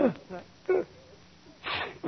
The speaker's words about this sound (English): Pardon me. Hello? Gesundheit.